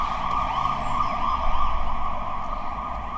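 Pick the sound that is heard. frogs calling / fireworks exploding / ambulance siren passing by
ambulance siren passing by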